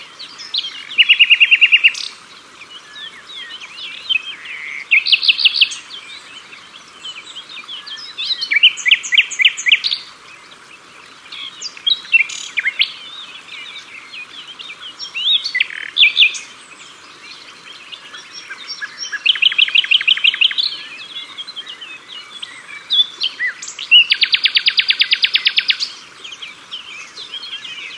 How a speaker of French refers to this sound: Et il est formidable. Et puis c'est le seul oiseau, le rossignol, qui chante la nuit. Oui, tout à fait. Et il chante des fois dans un silence total.